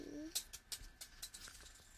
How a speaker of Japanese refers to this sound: ビーズが落ちた音。